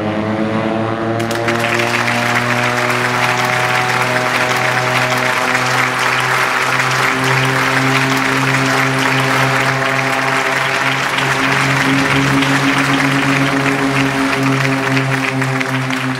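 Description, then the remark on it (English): Sustained applause and cheering from a crowd gathered at an airport tower rise suddenly and continue steadily over the loud, steady drone of a propeller aircraft engine, as the Indonesian N250 Gatot Kaca aircraft is flown up into the sky on the first Indonesian aircraft flight. “The airport tower resounded with cheers and applause as my pilot, Erwin Danuwinata, and my co-pilot, Sumarwoto, managed to get me up into the sky.”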